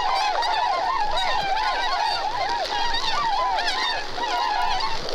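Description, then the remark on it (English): A large flock of snow geese calls continuously, with many overlapping honking cries layered into a loud, dense chorus that never pauses, with no voices present. “You can hear the birds shitting, falling like in stereo to the right of you, to the left over the left shoulder.”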